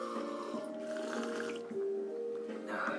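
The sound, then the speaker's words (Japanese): Jasmine tea being poured into a cup: a steady, continuous trickling stream lasting a few seconds, with a faint rising fill tone and no talking over it. “あ、お茶いただいてますね。お茶、 ありがとうございます。 はい、いただきます。”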